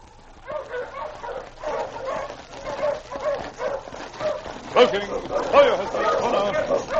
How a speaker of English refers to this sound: Already, Luke could hear the approaching dog team of his pursuer.